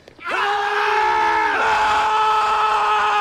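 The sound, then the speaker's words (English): A single loud, sustained Marine Corps battle-cry yell from one powerful voice, a sergeant demonstrating it, rising sharply then holding a strained, roaring tone for about three seconds, dominant with no other sounds. “Sergeant, demonstrate a Marine Corps battle cry for this penny waste.”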